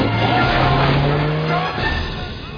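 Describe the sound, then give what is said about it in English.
A car engine roars and strains as it speeds off, with tires squealing against the road amid loud, rushing noise, the engine pitch rising steadily before easing off. “Dear God, I beg of you, stop the car.”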